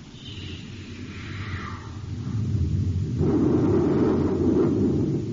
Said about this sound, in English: Fire a space torpedo close to his port side, Hap. Let him know we mean business, too.